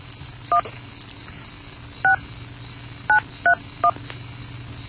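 A phone number is keyed in as five short touch-tone beeps at uneven intervals, sounding over a steady high-pitched whine and a low background hum.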